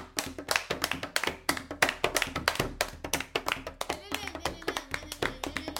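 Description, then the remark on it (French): Djembe drums played in Africa in a fast, steady rhythm, with sharp hand strikes tumbling over one another in dense flurries, and some faint vocal sounds partway through. “Écoutez les djembés là-bas.”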